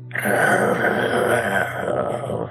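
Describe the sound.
A person voicing a tabaxi character with tiger-like features imitates a tiger's growl, producing one sustained, loud, guttural rumble with a rough, raspy texture that holds steady for about two seconds before trailing off.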